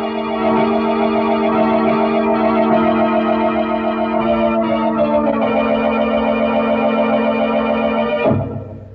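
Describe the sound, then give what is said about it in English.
A loud prison alarm siren, sounding after a prisoner has broken out, blares as one steady, harsh, buzzing tone, holding at a constant pitch for about eight seconds before cutting off abruptly. No voices are heard. “But instead of listening to that alarm, you should have paid more attention to that wife of yours.”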